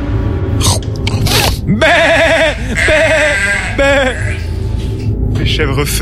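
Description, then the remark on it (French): A goat bleats several times, loud wavering cries in quick succession, mixed with short breathy snorts and rustling noises between them. “Vous entendez le bruit de la chèvre?”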